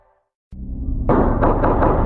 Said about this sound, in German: Es klang wie Pistolenschüsse. Mit diesen Schüssen beginnt meine Recherche. Die Schüsse feuert ein Polizist ab.